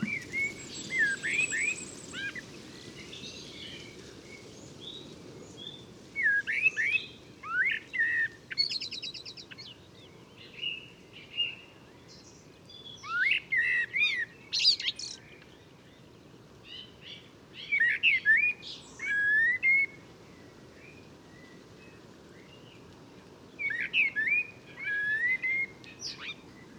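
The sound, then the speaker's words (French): A Eurasian blackbird sings mellow, fluted phrases, each ending in a higher twittering flourish, repeated with short pauses over a soft steady background rumble. No one speaks. “On va pouvoir ainsi comparer le chant beaucoup plus flûté du merle noir, plus doux.”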